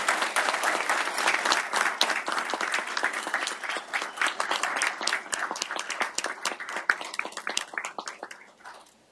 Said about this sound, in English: Let's give her a big round of applause.